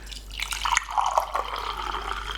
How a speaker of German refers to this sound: du gießt mir gerade neuen Tee ein. Das ist jetzt für den Sound. Für den Sound.